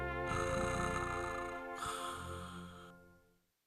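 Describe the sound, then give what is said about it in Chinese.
Rumbling, purr-like snoring of a sleeping bear heard over a telephone, in two drawn-out breaths with a gravelly low rattle, steady before fading away at the end. “电话里还传来了呼噜呼噜的声音。”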